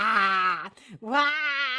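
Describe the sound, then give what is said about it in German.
Voices let out a loud, drawn-out wailing cry of "Wah!" imitating a big tomcat pouncing on and eating church mice: a long sustained yell, a short break, then a second rising yell of equal strength. “Und dann kommt der große Kater. Wah! Und der frisst die.”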